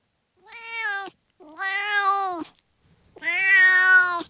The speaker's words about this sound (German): Dann holen wir jetzt die Katze kurz ans Telefon zum Übersetzen. Hier kommt unser Katzendolmetscher.